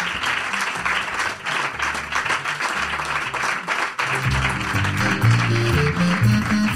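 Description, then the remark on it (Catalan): A crowd applauds steadily, a dense wash of clapping throughout, and about halfway through a musical tune with low notes rises beneath the applause. “Podeu aplaudir, podeu aplaudir.”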